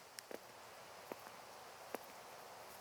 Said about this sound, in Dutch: Je oren horen je voetstappen.